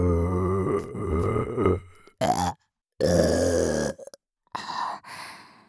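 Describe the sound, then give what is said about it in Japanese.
A series of loud, drawn-out burps, the first long and croaky, followed by three shorter belches separated by brief silences, with no talking. “もっとゲップで、息かけチンポ追い込め。”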